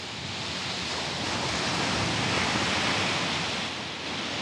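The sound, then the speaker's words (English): Ocean surf breaking on a beach below cliffs makes a steady, hissing roar that swells gently toward the middle and eases off near the end, with no voices. “As I walk to the waves”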